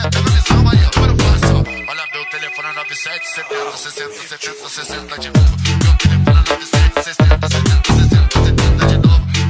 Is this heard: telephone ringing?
yes